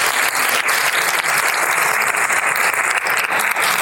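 Sustained applause from an audience, a dense steady patter of many hands clapping at close range for several seconds without pause.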